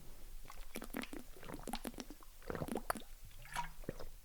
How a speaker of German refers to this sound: Ich muss noch kurz einen Schluck trinken.